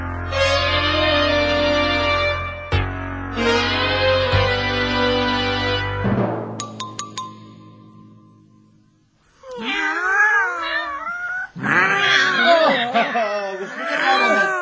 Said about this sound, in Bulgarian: Най-необичайно много котки има днес по улиците, нали? Так плътно са ви окръжили от всички страни. Сигурно усещат, че имате слабост към тях.